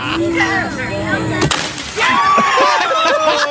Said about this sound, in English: Then there's the one time that the heavy guy does on the diving board and it breaks. And one more for the instant replay.